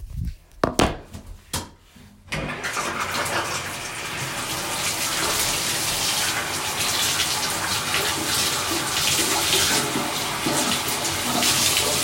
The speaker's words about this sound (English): Awesome. Let me run the shower then.